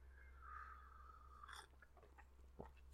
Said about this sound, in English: I'm going to have a slurp of tea.